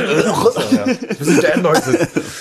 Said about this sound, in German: Ich bin auch, also erstmal da irgendwie fette, räuspern wir uns beide mal.